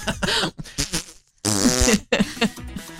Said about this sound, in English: Apparently, he broke wind loudly in front of police.